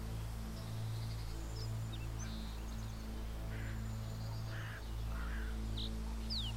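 A lone bird far above a mountainside path sings just once, a few faint, scattered chirps and short whistles, distant and high, over a steady low droning hum that fills the background.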